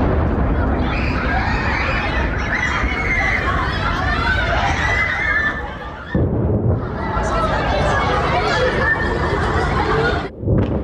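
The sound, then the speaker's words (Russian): Loud, sustained roaring and booming from explosions during a drone attack, with a brief drop around six seconds before a sharp blast-like surge, and agitated voices mixed in throughout. “смонтированные аудиозаписи, сделанные в момент атак беспилотников и ракет на Киев и Москву”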